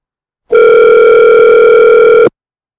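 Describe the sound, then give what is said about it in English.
A steady, unbroken telephone dial tone hums loudly for just under two seconds after a hang-up, starting and stopping abruptly, with no voices around it. “And she hung right up.”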